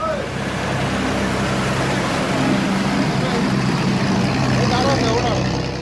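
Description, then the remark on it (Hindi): A river ferry boat's engine drones steadily over rushing water throughout, a continuous rumble with splashing wash, crossing the river to Majuli island, which can only be reached by boat. Indistinct voices murmur faintly in the background. “माजुली से जीतना उनके लिए बड़ी चुनौती है, क्योंकि ये वो इलाका है जो बाकी की दुनिया से कटा रहता है और यहाँ तक पहुँचने के लिए एकमात्र जरिया है नाव।”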